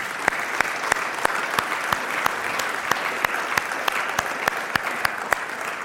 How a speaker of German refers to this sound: Der Applaus galt nochmal allen Müttern hier im Raum, die das so leben.